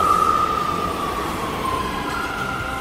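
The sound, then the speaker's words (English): A New York City subway train roars steadily, a high metallic whine riding over the dense rumble and sliding slowly downward in pitch, with no voices throughout. “New York City subway riders love Issues Etc.”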